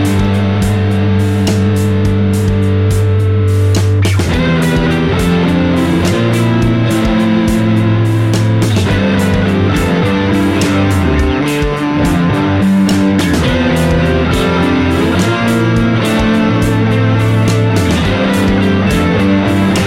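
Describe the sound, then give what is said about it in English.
An instrument runs through a KMA Worm 2 modulation effects pedal into a Neural DSP Corey Wong Clean Amp preset in a DAW, with no post EQ, reverb or delay, giving thick, warbling sustained notes and low chords that play loudly and continuously, with no voices. “The Worm 2 is the only effects pedal in the chain.”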